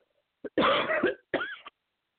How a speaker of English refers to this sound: Oh, jeez, I had to cough.